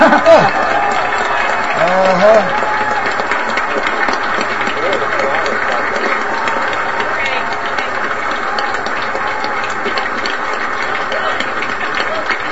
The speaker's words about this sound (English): Yay, go clap.